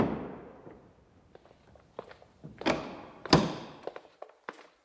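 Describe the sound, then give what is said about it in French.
The heavy door of an old apartment building thuds open with a reverberant boom after visitors ring the intercom, followed by a scattering of knocks, clunks and bumps of varying loudness, as if the door swings and settles. No one speaks. “Quelques secondes après, la porte s'ouvre sur un immeuble chargé d'histoire.”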